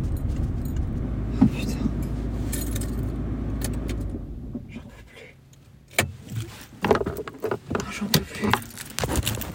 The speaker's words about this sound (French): Putain, le frein à main.